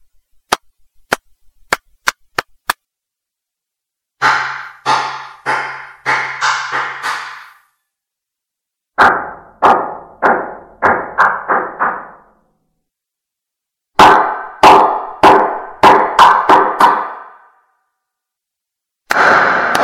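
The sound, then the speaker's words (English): Hand claps in several separate runs: first six sharp, dry claps, then three quick bursts of claps that ring out with lingering reverberant tails, and one final clap. No voices. “This is hand clapping in different spaces.”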